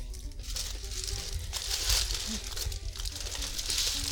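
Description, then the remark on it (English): Red tissue paper crinkles and rustles steadily as a gift is wrapped, a dense, papery crackle that swells and eases as it is handled, with no one speaking. “We're going with the red tissue paper.”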